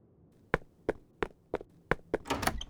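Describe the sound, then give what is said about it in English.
A series of six sharp, evenly spaced, loud thumps on a locked door, followed by a brief rattling, scuffling burst at the end. No one speaks. “Why is your door locked?”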